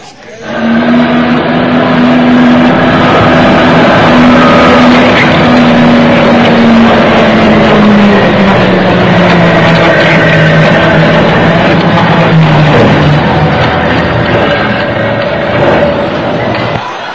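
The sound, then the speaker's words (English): A bus engine drones steadily and loudly for the whole stretch on a ride home from school, its low hum sagging slightly in pitch as the vehicle rolls along, with a constant road rumble underneath. “Going home from school one day on the bus, the subject of the second coming of the Lord comes up.”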